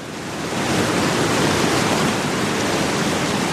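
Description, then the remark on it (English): A steady, dense roar of the rushing Colorado River at the bottom of the Grand Canyon, fading in during the first half second and then holding at a loud, even level with no voices. “And at the bottom of that great canyon, the Colorado River.”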